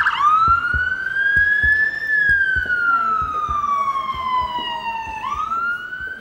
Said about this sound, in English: Then you will hear the ambulance sirens pull up, and the doors will open, and then you have to deal with that situation.